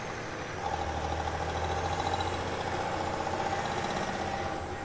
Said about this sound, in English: There was something off about that truck. As I was about to turn down another corner, I heard the unmistakable sound of an engine revving up behind me.